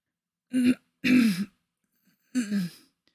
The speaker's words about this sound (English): His voice has just started coming back and he clears his throat.